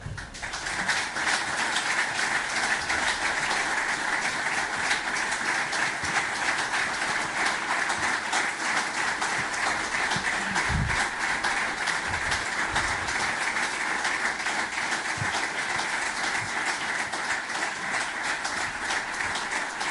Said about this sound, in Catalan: Doncs aquests són els 39 segons d'aplaudiments i de reconeixement a un gran del bàsquet, una gran trajectòria com a jugador del Barça, 9 temporades defensant els colors blaugranes